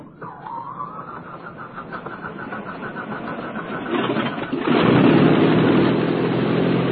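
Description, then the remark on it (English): An airplane engine drones steadily before takeoff, its pitch climbing briefly at the start, then surging into a louder, rougher roar for the last couple of seconds, with no voices. “Why are we the only plane taking off?”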